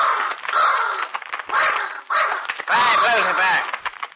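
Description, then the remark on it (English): A huge black raven named Lucifer, perched on the head of a bed, gives a run of harsh, raspy caws and croaks and flaps its wings angrily, loud bursts strung together over a few seconds with short gaps between them. “On the head of the bed perched a huge black raven, and as it saw Ned, it flapped its wings angrily.”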